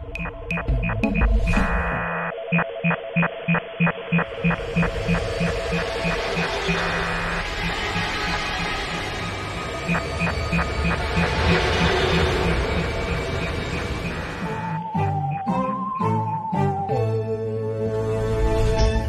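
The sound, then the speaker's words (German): A short electronic intro jingle for the show Alarmstufe X plays with no talking: steady pulsing synth notes in a quick rhythm over sustained tones, building to a fuller middle before a final run of shifting chords. “Also jetzt der Jingle rum.”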